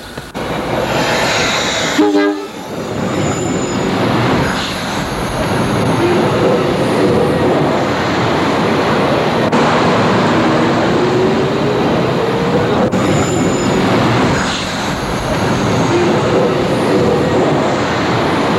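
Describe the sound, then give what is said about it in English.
A train rolls past on railway tracks, loud, with a steady heavy rumble and clatter that persists throughout, and a brief horn-like tone near the start. No one speaks. “I know, but the train will be here in 10 minutes.”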